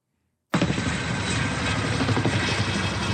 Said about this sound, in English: The helicopter is under it. Well, I mean, it's already fucking weird. You got a military helicopter circling like a, there it is.